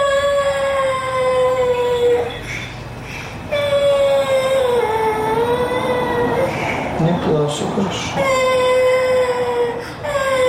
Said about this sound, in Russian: Ну, солнышко, не плачь. Все хорошо. Ты же не обожглась сильно. Все хорошо.